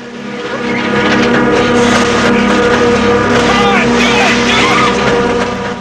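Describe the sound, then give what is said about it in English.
A car engine roars loudly as the vehicle screeches away in fog, a strained, continuous mechanical whine with rising tonal squeals over a dense rumble lasting several seconds. “Just as the ragged figures were about to attack through the windows, the car screeches away.”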